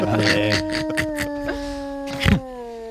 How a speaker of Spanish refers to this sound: Hombre. Sí, clásico. Lobo.